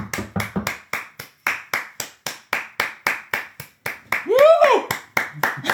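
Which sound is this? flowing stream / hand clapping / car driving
hand clapping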